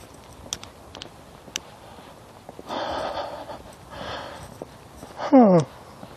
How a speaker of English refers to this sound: I got started yawning, now I can't stop yawning. As my body is trying to tell me something about being out for a walk when it wasn't really expecting to go today.